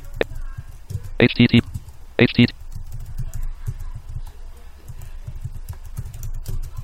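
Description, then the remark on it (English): Keys clatter in short bursts on a computer keyboard as someone types an IP address or hostname into the Run dialog, with two brighter clusters of rapid clicks standing out against a low background hum. “And you type in your IP address, or in my case, my fixed name that I got from noip.org.”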